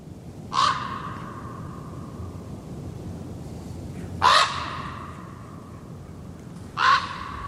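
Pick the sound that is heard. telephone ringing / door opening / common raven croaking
common raven croaking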